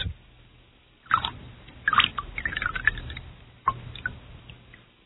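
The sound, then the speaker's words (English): Ice water dripping into a glass of clear olive-green absinthe, clouding it to a milky white, at a Super Bowl party. A few small drips and soft splashes at uneven intervals, fairly quiet, with no talking. “As you pour the water into it, it'll change color to a milky white.”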